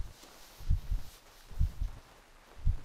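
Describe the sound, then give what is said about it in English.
A slow, steady heartbeat of a person being embraced, muffled, with soft paired lub-dub thumps repeating about once a second over a faint hiss. No voices. “Can you feel my heartbeat now?”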